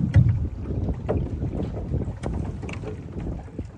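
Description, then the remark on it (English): Small pieces of ice knock and clink against the hull of an aluminum boat in irregular taps over lapping water and steady wind rumble. “So some of my favorite sounds that I hear are, like, you know, the aluminum boat, and then you hear, like, little pieces of ice just, like, hitting against the boat.”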